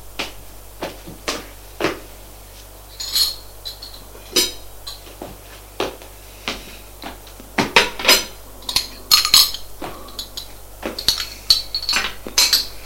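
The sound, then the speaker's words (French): A maid sets down a breakfast tray of dishes and cutlery, with repeated bright clinks and clatters of china and metal in irregular bursts, some soft, some sharp, and no voices. “C'est la bonne qui vient apporter le plateau du petit déjeuner.”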